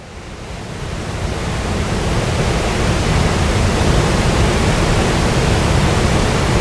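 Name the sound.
roaring waterfall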